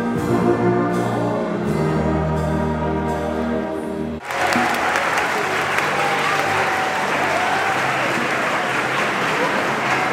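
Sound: audience applause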